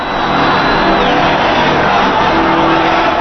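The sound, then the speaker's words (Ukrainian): A large crowd cheers in St. Peter's Square at the Vatican, in rain and strong wind, at the election of a new pope, a loud, dense, continuous roar of many voices nearly drowning out the bells of St. Peter's Basilica, with scattered shouts and no pause. “Їхні радісні вигуки майже заглушили дзвони собору Святого Петра, які підтвердили обрання.”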